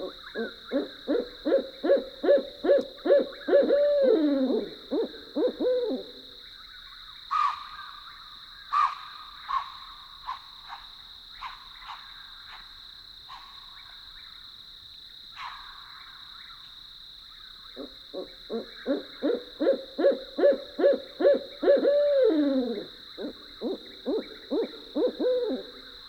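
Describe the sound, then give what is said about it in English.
Two long bouts of rapid, rhythmic owl hooting outside tents at a campground at night, each accelerating and then trailing off, separated by quieter scattered calls over a steady high insect-like drone in a still night setting. “With owls hooting outside our tents, we drift into deep sleep.”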